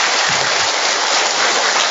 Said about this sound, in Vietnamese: Một tràng pháo tay thật to thưa anh chị em.